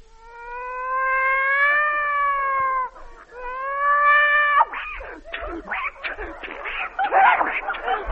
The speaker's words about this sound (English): A cat fight.